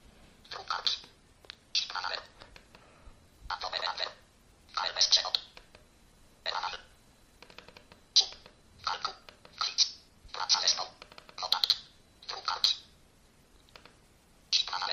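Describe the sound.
Keys on a Nokia mobile phone running the Mobile Speak screen reader program are pressed about a dozen times in a steady rhythm, each click followed by a short, quiet burst of rapid synthetic screen-reader speech.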